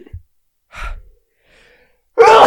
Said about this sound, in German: ich muss gleich niesen. Scheiße.